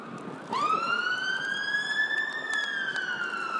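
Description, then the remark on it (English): A big fire engine's siren starts up abruptly and rises into a loud, sustained wail that holds steady, with rich harmonics and a faint background rumble. “That one sounds like a fire engine.”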